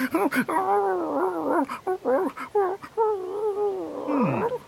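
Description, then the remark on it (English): A pet dog growls and grumbles in a series of drawn-out, rising and falling moaning bursts, fairly loud and continuous for several seconds. “Is it a cat? No! Digger's a dog.”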